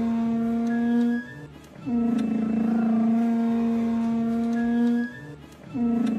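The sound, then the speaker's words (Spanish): A table scraped across the floor, giving a loud, steady droning groan in three long drags separated by brief pauses, with no voices. “Eso es moviendo una mesa.”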